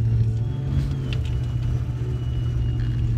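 car driving off

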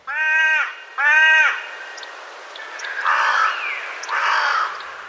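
crows cawing

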